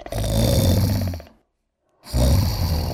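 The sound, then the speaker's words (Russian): Loud snoring of a fat sleeping rat in a burrow: two long rumbling snores separated by a brief silent pause, rough and throaty, with no voices present. “Они прислушались и услышали громкий храп.”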